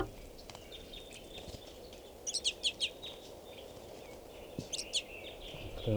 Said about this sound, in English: And there are at least 20 more birds in the tree. So there's a good 40 crossbills right here.